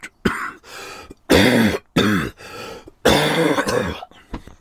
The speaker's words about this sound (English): A very dry cough, that.